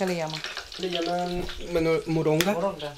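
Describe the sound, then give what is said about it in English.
Slices of sweet potato and thick, very dark blood sausages sizzle and crackle steadily in two frying pans in a tiny kitchen of a house near Churchill Downs, mid-morning, a continuous frying hiss beneath voices talking throughout. “There's a pan with sizzling slices of sweet potato and another one with thick, very dark sausages, almost black.”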